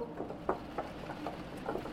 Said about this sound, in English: Unbelievably, I heard more tapping. But this tapping was rain. It was fucking raining. Again.